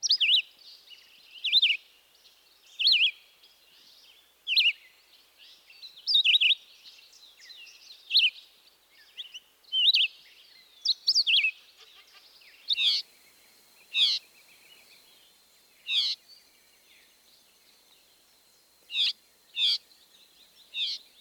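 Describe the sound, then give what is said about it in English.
A male red-eyed vireo sings short, repeated phrases separated by brief pauses, clear, with a drawn-out whiny call note sounding in between. No one speaks. “Here's the red-eyed vireo's song again, as well as his whiny call note.”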